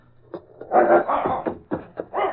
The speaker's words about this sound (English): Police dogs. I've got to quiet them quickly.